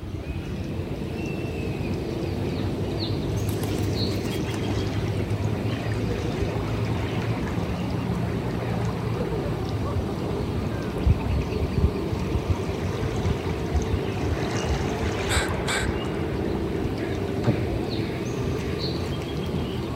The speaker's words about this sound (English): Down here on the rocky sand, this seems like about as good as any spot to sit down and listen for a while. The peaceful lapping of the waves as they rock back and forth from the shore.